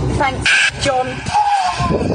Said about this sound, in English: Oh, and I love this sound right here. The sound of kids crying.